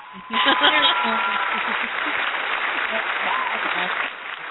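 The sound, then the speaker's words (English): A burst of applause begins abruptly and keeps going steadily for several seconds as a dense, even clatter of clapping, with faint voices or cheers mixed underneath before it eases off. “That deserves some applause.”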